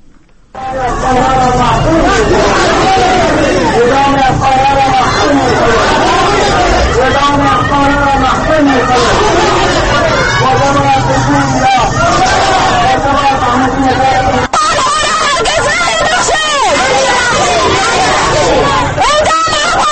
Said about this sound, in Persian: گزارش تهیه کرده است که با صدای مظاهره کنندگان آغاز می شود